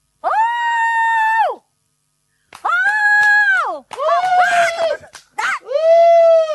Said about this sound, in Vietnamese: Bà kêu chồng bà làm như bà kêu khỉ vậy. Cái gì mà hú hú vậy? Chứ tôi kêu ông không lên tiếng, tôi phải hú lên. Cái tiếng tôi hú thì mới lớn tiếng được chứ.